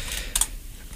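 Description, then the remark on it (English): A short burst of computer keyboard typing while trying to hack into a system to get weather data, a couple of quick bright clicks close together, with faint earlier tapping and a low hum underneath, no voices. “I'm going to have to hack into the system, I think, to get the weather.”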